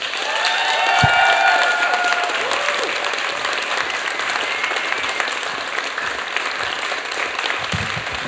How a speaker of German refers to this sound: Klatscht ihn mit einem tosenden Applaus, mit einem 10-Punkte-Applaus hier ins Mikrofon.